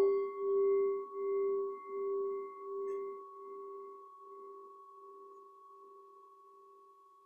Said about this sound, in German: Und lassen von der inneren Welt los. Hören diesen Gong.